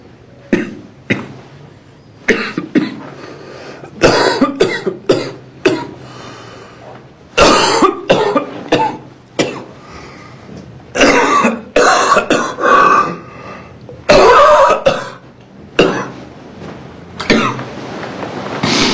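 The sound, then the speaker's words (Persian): A person coughs over and over in a long series of close, harsh bursts, some clustered tightly together, with occasional throat clearing and short breaths between them. “حقیقت، حقیقت با همان وضوح و تلخی و بیرحمی که هست، با همان نگاه بی اعتنایش به نفسهای کوتاه و سرفه‌های دائم تو.”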